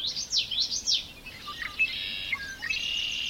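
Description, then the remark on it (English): A Wilson's snipe winnowing in spring over low marshy open country: a rapid, tremulous, pulsing whistle rising and falling in quick waves from up in the sky, fairly faint against a quiet outdoor background, with no talking. “It's the winnowing sound of the Wilson's snipe.”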